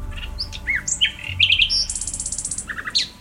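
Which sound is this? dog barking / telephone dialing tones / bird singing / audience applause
bird singing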